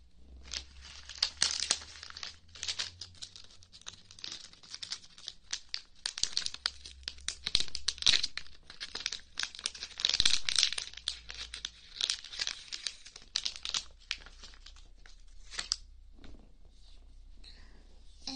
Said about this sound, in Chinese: 棉棒的话，抽屉里面应该就有的。等我找一下。